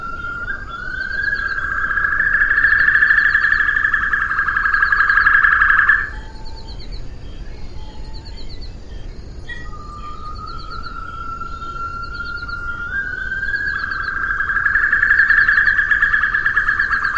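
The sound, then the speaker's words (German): Two long, loud, steady whistling calls of the extinct Assumption white-throated rail, rendered by an artist, each lasting several seconds, separated by a pause with faint chirps, set against constant field ambience from original recordings made in Assumption, with no talking. “die in der Literatur als sehr variabel beschriebene Stimme der ausgestorbenen Assumption Weißkehlralle zu Gehör bringen zu können”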